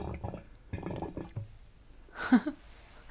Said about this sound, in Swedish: Så här står den och bubblar. Precis. I någon slags slingrig ventil. Ja, det är ju ett vattenlås eller ett jäsrör brukar det kallas. Det är så att det inte ska komma luft ner i hinken. Så det ska vara tätt.